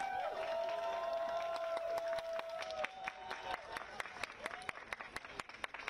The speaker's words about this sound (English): At a news conference soon afterwards, the man in charge was applauded by the world's media.